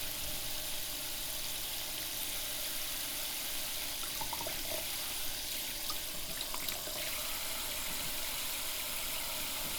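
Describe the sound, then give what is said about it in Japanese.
Plenty of warm water pours steadily over hair, rinsing out a treatment after a generous lather, in a continuous rush with faint splashy flickers now and then and no one speaking. “泡をたっぷり使ったのでお湯もたっぷりでトリートメントを流します。”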